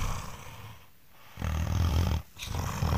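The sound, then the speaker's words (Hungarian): Deep, rumbling snoring from a man: two long, rough inhalations separated by a brief pause, loud and throaty with a growling texture. “Ez pasi sorkolás.”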